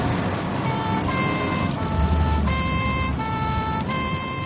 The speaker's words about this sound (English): Right, put the siren on.